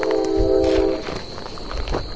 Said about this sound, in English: but you can actually hear the train, which is about 3 miles away. Yeah, it should pick up the horn at least. You can hear the train running, but it's not the horn. Yeah. That's how quiet it is out here.